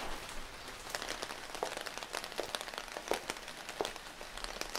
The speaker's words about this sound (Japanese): 通り雨だから大丈夫かなって思ってたのに全然止まなくて、途方に暮れてたところ。